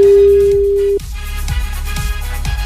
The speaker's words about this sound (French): Attention, pour la deuxième fois de la matinée maintenant, on vous appelle en direct. C'est peut-être votre téléphone qui est en train de sonner.